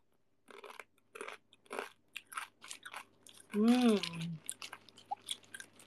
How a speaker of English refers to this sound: Sounds like you eating basreng.